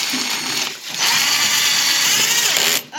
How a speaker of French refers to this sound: La visseuse, elle doit bien être droite. Allez, vas-y.